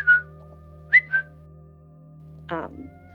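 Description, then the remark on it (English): Three short, sharp whistles made as a vocal tic, one on its own and then a quick pair, followed by a brief breathy vocal burst, fairly loud over a low background hum. “I think I picked up the whistle.”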